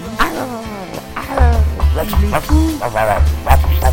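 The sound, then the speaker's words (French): A person mimics a dog's barking at a stranger knocking at the door, with a quick series of short, voiced yaps and woofs, fairly loud, while a low steady hum runs underneath for most of it. “Alors aboie, aboie comme ça là.”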